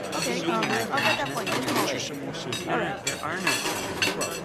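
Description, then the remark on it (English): Dishes, plates and cutlery clink and clatter in a steady jumble of sharp knocks as they are collected from diners, with faint voices murmuring underneath. “Can I take that dish for you?”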